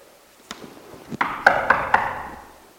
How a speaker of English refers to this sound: Whoever is knocking is going to wake all Jerusalem, and then we really will be in trouble. I'll go to the door.